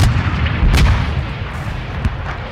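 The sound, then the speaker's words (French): A massive explosion of mines dug under German trenches, blown at the start of an attack, rumbles with deep, sustained booming, punctuated by sharp blasts early on and again near the end, loud with no voices. “Le départ était extraordinaire parce qu'à ce moment-là, on a fait sauter les tranchées allemandes par des mines qui avaient été creusées sous leurs tranchées. Et d'un coup, une énorme explosion qui avait complètement démoli leur ligne de défense.”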